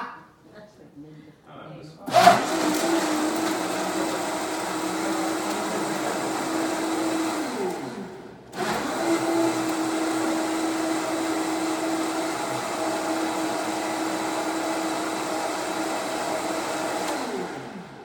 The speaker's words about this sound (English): And so a Vitamix is, to me, the best blender, but again, they aren't cheap, but you can blend up rocks with this bad boy. They're pretty powerful. So close your ears for just a second.